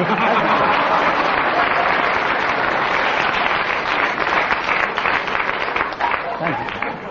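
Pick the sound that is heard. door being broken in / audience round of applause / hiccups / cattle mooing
audience round of applause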